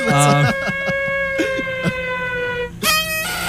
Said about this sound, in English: Oh, that's an air raid sound.